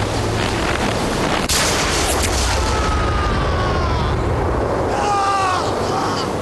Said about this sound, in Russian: выстрелил, не дойдя до барьера одного шага.